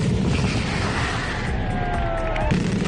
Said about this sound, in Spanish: Así sonaba la primera mascleta de 2026. Ya digo que se había tenido que suspender varias veces. Este domingo Alicante ha vuelto a retumbar con ese gran disparo de pirotecnia mediterráneo en el parking de Teulada.